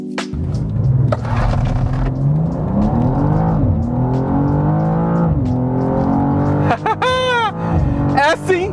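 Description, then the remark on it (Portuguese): A six-cylinder sports car engine roars loudly on a race track, its pitch climbing through several gear shifts as it accelerates hard to 160 with stability and traction control off, with a sharp whining sweep near the end. “Então eu acho que é a hora de a gente fazer esse motor 6 cilindros rugir.”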